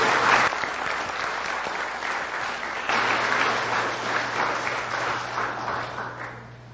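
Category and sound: crowd, audience clapping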